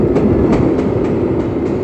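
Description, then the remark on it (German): A train thunders loudly over a bridge and into a tunnel, a heavy continuous rumble with a steady clickety-clack of wheels over rail joints, no voices. “Dann donnerte der Zug über die Brücke und fuhr in den Tunnel.”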